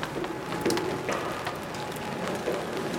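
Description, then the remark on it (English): Light rain patters steadily on a large umbrella overhead in Japan, a soft continuous hiss broken by scattered tiny taps of individual drops, fairly quiet, with no one speaking. “Can't hear it extremely well, but yeah, it's only a little bit rainy.”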